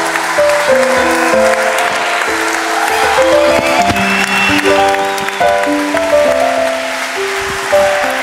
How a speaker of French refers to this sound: Le Zénith, les applaudir encore plus fort.